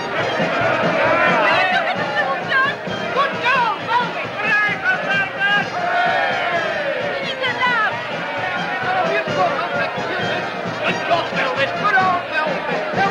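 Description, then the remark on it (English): A dense crowd of fans chatters and cheers continuously at nighttime as two gentlemen in black bowler hats hoist Velvet onto their shoulders, many overlapping voices forming a loud, steady babble with occasional raised shouts rising above the noise. “Two gentlemen in black bowler hats hoist Velvet onto their shoulders high above the crowd.”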